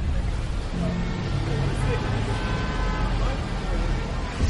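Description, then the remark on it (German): Steady, dense city traffic in Salzburg, Austria rumbles, a continuous low roar of engines with a faint horn toot and indistinct crowd murmur mixed in. “Salzburg wächst. Mehr Menschen. Mehr Verkehr.”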